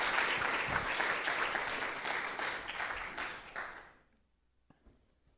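An audience applauds a scripture reading with dense, steady clapping that holds for about four seconds, then tapers quickly into near silence, leaving only a couple of faint stray sounds.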